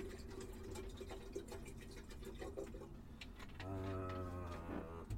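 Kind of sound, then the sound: household object, water filling a kettle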